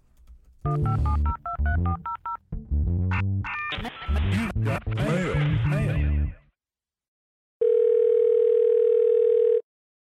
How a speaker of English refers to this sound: Oh, hang on. Whoa, my phone. I'm getting a call. Wait.